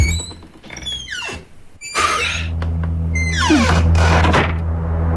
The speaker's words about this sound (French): Moi, j'ouvre cette porte.